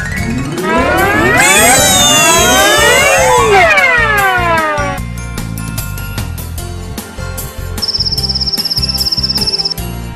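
A loud wailing siren sweeps up and down, then fades into a busy background where a rapid, steady cricket trill chirps for about two seconds near the end.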